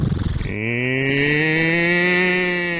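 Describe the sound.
A person imitates a cow with one long, loud moo, starting with a rough, pulsing onset and settling into a steady sustained drone for nearly three seconds.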